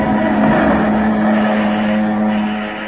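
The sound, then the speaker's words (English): An airplane engine runs loud and steady, a continuous droning roar with a low humming pitch that holds throughout, easing off only slightly at the very end. No voices are heard. “Shut off that engine, Sammy.”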